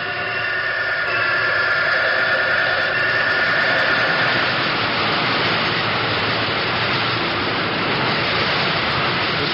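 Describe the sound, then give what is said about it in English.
A cyclotron's oil circulating device, which circulates oil around the bearing of the rotary condenser inside the machine, runs with a steady, dense mechanical whir and broad hiss, holding an even loudness throughout with faint tonal hum bands beneath and no talking. “This is the oil circulating device that circulates oil around the bearing of the rotary condenser, which is inside the machine.”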